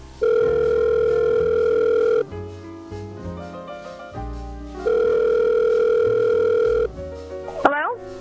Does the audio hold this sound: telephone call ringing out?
yes